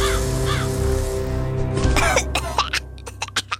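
A few harsh, raspy crow caws sound over a steady low background drone, followed by a series of short, rough bursts spaced unevenly toward the end.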